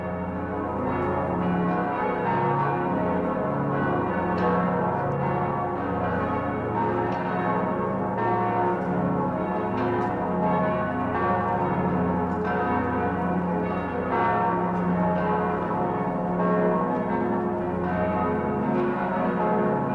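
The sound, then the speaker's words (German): Several large bells of Passau Cathedral peal together in a dense, continuous wash of overlapping strikes and long resonant hums, loud and steady throughout with no voices. “Der Wind trägt den Gesang der Passauer Domglocken über die Hügel um die Stadt und die Flüsse hinauf.”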